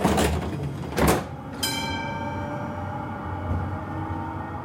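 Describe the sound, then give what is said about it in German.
Munich tram doors slide shut with two quick pneumatic hisses and a thud, then the electric motor starts up with a steady rising whine as the tram pulls away. “Einsteigen bitte. Die Tram feiert heuer in München ihr 150-jähriges Bestehen.”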